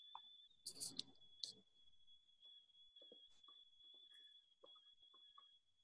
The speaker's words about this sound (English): Okay, I'm typing up something on here. We'll see.